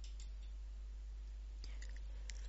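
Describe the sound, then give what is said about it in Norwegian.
A single soft mouse click on a title lands partway through an otherwise quiet stretch, followed by a couple of faint ticks, with a low steady hum underneath and no voices. “Klikk på titlen for å se nærmere hva som befinner seg her.”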